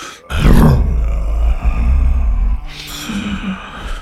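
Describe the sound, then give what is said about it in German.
A loud, drawn-out lion roar made by a human voice, deep and rumbling for about two seconds, followed by a shorter, breathier growl that trails off. “Da brüllte es noch lauter als vorher zurück.”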